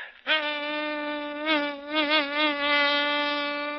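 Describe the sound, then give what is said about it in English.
A voice imitates a mosquito's whine in a joke about a mosquito flying into a grocery store and lighting on a small lump of sugar. It is a steady nasal buzz that wavers and bends in pitch as if darting about, fairly loud for several seconds with no speech. “It was about a mosquito flying into a grocery store, lighting on a small lump of sugar, and it went something like this.”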